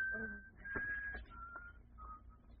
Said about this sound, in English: That whistle. It reminds me of something.